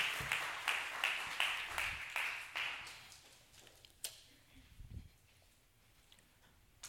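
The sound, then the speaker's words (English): A short burst of applause from an audience giving a round of applause to a woman who has just spoken, with a few louder claps standing out, fading after about three seconds into quiet background noise and a couple of stray taps. “Yeah, let's give her a round of applause.”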